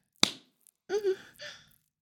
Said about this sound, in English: Slap my ass.